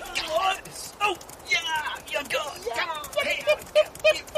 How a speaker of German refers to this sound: Mensch, das muss sie sein. Die weiße Stute. Toll sieht sie aus. Ja, aber wieso rennt sie denn davon? Zwei Cowboys. Oh nein, die wollen sie fangen. Lauf, Pferdchen, lauf!